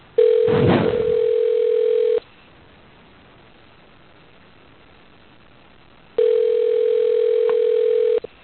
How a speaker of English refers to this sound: Okay, is somebody ringing?